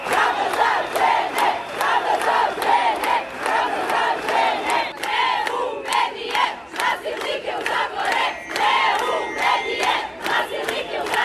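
A crowd of women chants loudly in unison at a street protest in Belgrade, held in front of a tabloid that published an interview with a repeatedly convicted rapist. Their voices rise and fall in a steady rhythmic cadence, punctuated by sharp claps or beats, with no pauses throughout.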